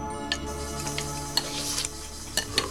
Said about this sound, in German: Während die Dame aufrecht sitzend im Bett die Bouillon löffelte, saßen die Jungs an einem kleinen Tisch und langten hungrig zu.